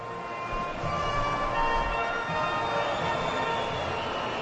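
A large crowd in Turin, Italy whistles loudly and continuously at the Spanish national anthem before a Spain match, shrill overlapping whistles held steady over a dense, rumbling crowd noise for the whole stretch, with no pauses.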